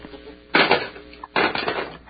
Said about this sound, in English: Okay, and the phone has been hung up.